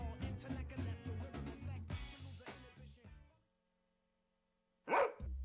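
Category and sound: animal, dog barking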